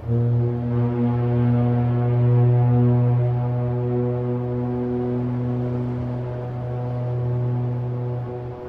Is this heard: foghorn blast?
yes